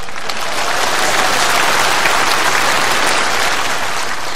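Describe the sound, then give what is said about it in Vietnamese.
A steady round of applause from a group, many hands clapping densely and evenly at a loud level for several seconds, with no voices standing out; given at a monk's teaching to thank the people who honestly confessed. “Cho một tràng vỗ tay.”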